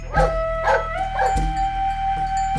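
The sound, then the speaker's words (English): A dog named Eowyn barks sharply and angrily at a wolf-like animal silhouetted on a hill crest at twilight, three quick barks in the first second and a half, followed by a tense, lingering whine-like tone with no voices present. “Following the line of the dog's fury, Anya felt the hair at her own nape rise.”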